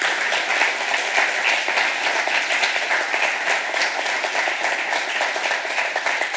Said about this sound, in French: Et Nouvelle Vie de Drummondville, est-ce que ce matin, par compassion, on peut juste applaudir une personne ce matin qui a besoin de l'entendre, que Dieu veut rebâtir, que Dieu veut restaurer?